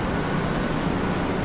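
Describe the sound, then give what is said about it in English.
A kayak being cleaned on a trailer along a river, heard as a loud, steady rushing hiss over a low rumble that continues unbroken throughout, with no voices. “that's loud. Somebody's cleaning the kayak, Urban Kayaks trailer along the river here.”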